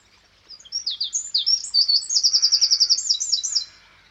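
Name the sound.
wren song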